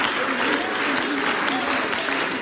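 A crowd claps steadily and densely, a continuous wash of many hands applauding with no pauses, lasting a couple of seconds, as the audience cheers on a performer.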